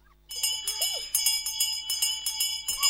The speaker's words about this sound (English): This is the bell on the school in the bay, ringing the children in from their play.